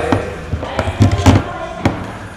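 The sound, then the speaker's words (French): A door of a small bar in Grenoble being opened and shut: a handful of sharp clicks and solid thuds spread unevenly over a couple of seconds, with a low rumble of background noise between them. “Me voici à pied d'œuvre et devant la porte.”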